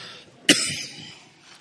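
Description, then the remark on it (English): A preacher, during a sermon, gives a single sharp cough, followed by a rough, rasping clearing of the throat that trails off. No one speaks. “But now I can't preach because I'm coughing like this.”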